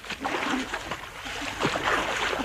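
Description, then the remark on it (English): Steady splashing and sloshing of water, irregular bursts of churning and spattering as Bloodnock and another man flounder in the sea, continuous for the whole stretch with no voices. “Bloodnock and I floundered in the cruel sea.”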